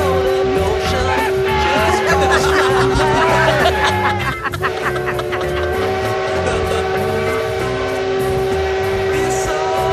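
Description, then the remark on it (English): A steam train's horn blows loud in one long, unbroken tone lasting the whole time, held over the heavy rumble and clatter of the moving engine. “I think the number of times a man blows a horn on a train is in direct correlation to the lack of size in his smaller the longer he blows.”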